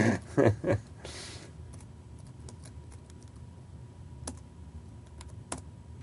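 Quiet computer keyboard typing: a quick flurry of clacks at the start, then only a few scattered single key clicks over a low, steady background hum. No one speaks.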